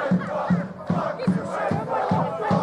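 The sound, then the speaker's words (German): A loud crowd of angry Crystal Palace football fans, marching through the city with banners, chants and shouts "Fuck UEFA" in unison, voices rising and falling in a steady, pounding rhythm with a strong accent roughly every half second. “Und sie schreien und singen da «Fuck UEFA».”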